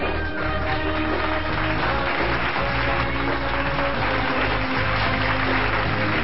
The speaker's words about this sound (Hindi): स्वागत करते हैं फिर से the first woman vigilance commissioner, life time achievement award winner in the banking industry, Shrimati Ranjana Kumar ji का जोरदार तालियां इनके लिए।